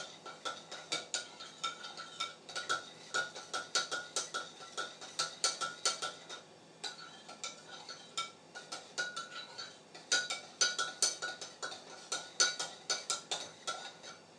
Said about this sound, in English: Then we're just basically stirring it, mixing the cube about so it's nice and, you know, in the water.